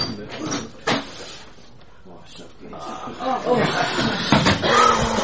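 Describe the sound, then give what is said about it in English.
A door opens with a couple of sharp knocking clunks and a brief rattle, over a low murmur of voices and rustling. “Every time that door opens...”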